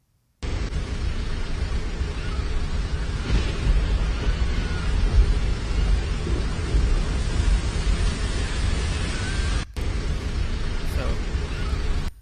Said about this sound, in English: I saw this video of this storm over the ocean, and it just like unleashed water, It's like the bottom just fell out from underneath the storm. And I actually have a little clip of it here to show y'all.